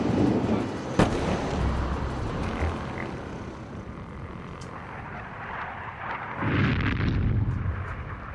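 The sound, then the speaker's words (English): Distant bombs explode over Beirut as the Israeli Air Force flies overhead at 4 a.m. on the night of 13 to 14 July 2006, in a low, rumbling series, with a sharp thud near the start and another heavy boom swelling later, all muffled by distance and a steady background roar. “The Israeli Air Force flies over Beirut. Far away, we hear bombs falling down.”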